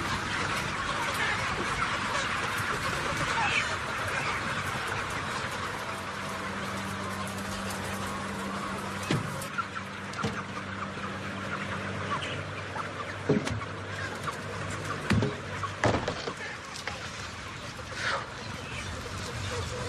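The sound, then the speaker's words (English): A dense chorus of many chickens clucking and murmuring in a barn, steady and fairly loud throughout, with a few sharper clucks and low hums rising out of the crowd noise. “A lot of these chickens here, they can take a few steps, and then they plop down.”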